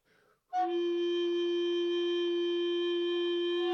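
After a brief breathy puff, a wind instrument sounds a loud, steady, overblown F note that holds unbroken to the end, bright and rich in overtones, with no talking.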